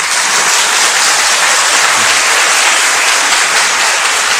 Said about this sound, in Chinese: 谢谢各位的掌声，给我很大的鼓励。